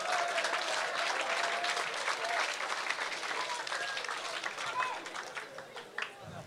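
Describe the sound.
An audience applauds steadily, a dense patter of many hands clapping at an even level throughout, thinning slightly near the end, with faint voices mixed in.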